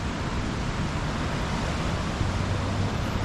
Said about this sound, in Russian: И ветра нет, действительно. То есть где-то есть ветер, иначе бы волн не было. Где-то ветер все-таки есть.